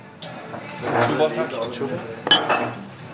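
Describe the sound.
Glass bottles and glasses clink now and then in a Copenhagen bar early in the day, where older men and women sit with green bottles at a worn bar counter; one sharp chink stands out over a steady background murmur of indistinct voices.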